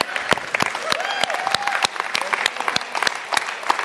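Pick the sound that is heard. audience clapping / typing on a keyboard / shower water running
audience clapping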